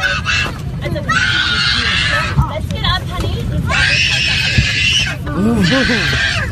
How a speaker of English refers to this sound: It's that high-pitched scream. This bambino here. It's got a good set of pipes, right? For 8 hours on a flight from New York to Germany on Lufthansa.